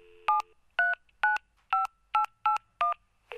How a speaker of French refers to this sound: Ça commence par une sonnerie de téléphone.